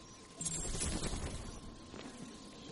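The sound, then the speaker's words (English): A gunshot from the bell tower cracks out and rolls away in a long, echoing tail, with a fainter second report a moment later. No one speaks. “The gunshot came from the bell tower.”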